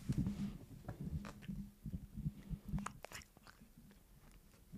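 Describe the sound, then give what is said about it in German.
A toothless cat chews and smacks on food, with wet, irregular crunching bites and clicky mouth sounds repeating throughout, no talking. “Katzenschmatz ASMR ist vielleicht besser als Menschenschmatz ASMR.”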